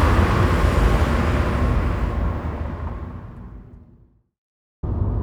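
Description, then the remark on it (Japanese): A car speeds up along an empty seaside road in the weekday daytime, its engine and tire rumble loud at first, then fading to silence before the driving noise abruptly cuts back in. “平日の昼間は道が空いてていいわね。”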